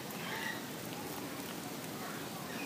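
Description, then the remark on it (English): Steady, soft patter of raindrops falling from trees onto the grass nearby just after it has finished raining, a gentle continuous wash of scattered taps with no voices. “It just finished raining, so kind of makes it even more peaceful hearing these raindrops on the trees and fall on the grass next to me.”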